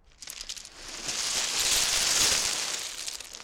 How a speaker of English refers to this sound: These are some sounds from a cold February day on Bembridge Beach on the Isle of Wight. This is a recording, Bembridge Beach, windy day, right by the seaside, right by the shore, to get some wave noise. Rock avalanche sound.